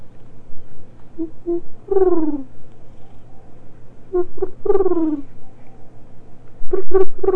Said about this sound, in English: Do you hear that, dove? I hear a bird out there.